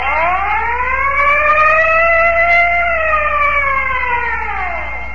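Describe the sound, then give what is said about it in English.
A loud fire siren, the siren bell of the Texaco Fire Chief radio program, winds up in pitch, holds a steady wail, then slowly winds back down over about five seconds, with no voices. “And remember, whenever you hear the siren bell, think of Texaco.”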